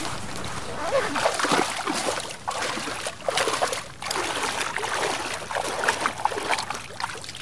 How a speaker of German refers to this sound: … stapft ohne zu zögern ins Wasser.